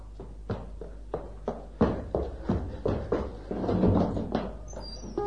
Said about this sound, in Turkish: Yavaş olsana arkadaş. O nasıl kapı kapatış?